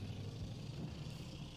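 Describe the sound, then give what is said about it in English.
A truck engine runs with a steady, low rumbling drone that holds at an even, moderate level for the whole moment, with no voices over it, on a windy day. “It's a cool truck.”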